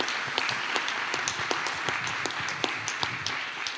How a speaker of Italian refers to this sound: Non si gode il pubblico, ma siamo riusciti a far sentire l'applauso, senz'altro.